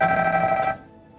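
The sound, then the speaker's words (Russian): A telephone rings with a bright, steady electronic tone for under a second, then cuts off abruptly, leaving a quiet background hum. “Маємо телефонний дзвінок.”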